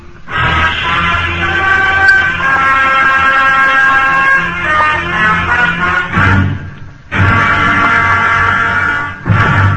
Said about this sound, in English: just sit back, relax, and watch the cars roll by. Watch the heavy traffic on the highways in the summertime.